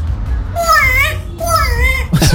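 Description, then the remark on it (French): An African grey parrot, asked by its owner to make sounds, mimics a baby's wailing cry in two drawn-out, wavering bursts, fairly loud, ending with a brief noisy rustle. “Et le perroquet réalise ses sons, écoutez. Et comment il pleure le bébé?”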